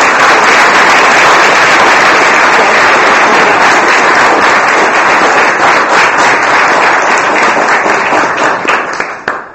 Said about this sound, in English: So a round of applause for everything they did this year. Hard work to do.